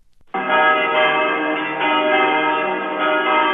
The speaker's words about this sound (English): For days, the bells of St. Alexander's Cathedral have been ringing their welcome for Pope John Paul II.